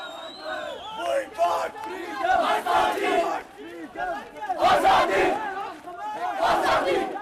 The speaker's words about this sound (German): Azadi, sie rufen nach Freiheit. Die wütende Menge versammelt sich nach dem Freitagsgebet am 29. Juli vor dem Büro der Vereinten Nationen in Srinagar.